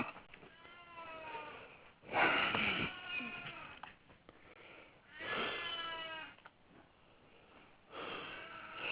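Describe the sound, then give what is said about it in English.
A cat meows repeatedly through a telephone line, several drawn-out, loud cries with harmonic wails spaced a few seconds apart, sounding thin and band-limited. “Oh, you have a cat?”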